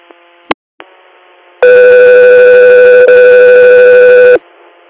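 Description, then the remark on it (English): A loud, steady electronic radio dispatch alert tone, announcing an interfacility patient transfer request, holds for about three seconds after two brief clicks over a faint hum of radio static, then cuts off abruptly. No one speaks. “Scout 3 here, stand by for tones.”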